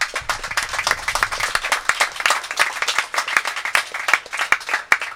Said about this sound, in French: Nous voulons un tonnerre d'applaudissements pour l'équipe de chroniqueurs